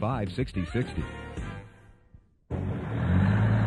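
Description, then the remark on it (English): A voice speaks briefly, then after a short pause a heavy vehicle engine rumbles in, steady, as an Army Reserve supply truck carrying 12 cases of medication drives along toward a field hospital. “Thanks to you, the 12 cases of medication on this truck will make it to your field hospital exactly when they're needed.”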